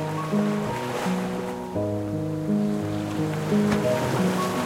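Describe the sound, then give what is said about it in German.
Gentle ocean waves wash steadily onto a shore, a soft continuous surf blended with calm, sustained synthesizer chords that shift slowly in the foreground. “Und mit den Füßen weiter im Ozean beginnst du den Strand entlang zu gehen.”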